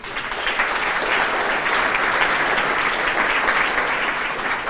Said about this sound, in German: Einen Applaus bitte